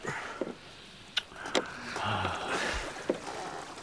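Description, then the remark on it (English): A rowboat glides across a calm, hazy sea, oars knocking and splashing in a slow, irregular rhythm against a soft wash of water, quiet. “Somebody's there. Another boat.”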